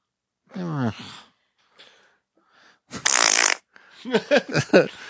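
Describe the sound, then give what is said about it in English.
A loud, rasping fart sound with a falling, buzzy pitch, followed after a pause by a hissy burst and a string of short, voice-like bleats or chuckles. “That's fart, what we've become.”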